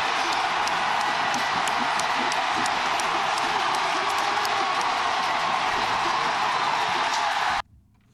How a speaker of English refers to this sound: Okay, we got it. Sounded like a big crowd.